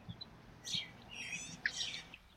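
Songbirds call and chirp in quick, bright bursts, one warbling phrase followed by sharper chirps, fairly soft, in a park near the water among trees and grass by basketball courts on a sunny day, with no voices.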